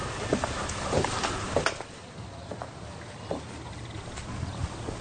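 A handful of sharp footsteps click on a hard surface, a few quick paces as a man steps away by the parking lot of a swimming pool building, then fade into a quiet background hum with only faint scattered taps.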